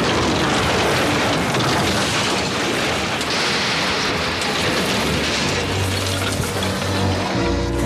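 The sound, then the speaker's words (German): An airplane crash landing on a wide grass field: a long, loud, unbroken roar of rumbling and crunching noise as it shakes, bounces and shoots along the ground shaving off trees and bushes, with a low droning hum emerging near the end before it cuts off abruptly. “Das Flugzeug prallte auf. Es bebte, knirschte, krachte.”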